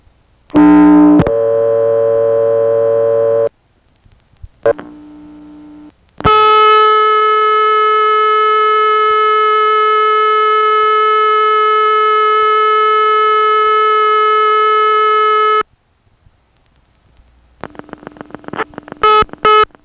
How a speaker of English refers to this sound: Now I'm going to try to speed up and slow down the dial so that we can get all of the signals, 1 beep, 2 beeps, and 3 beeps, during the course of the call.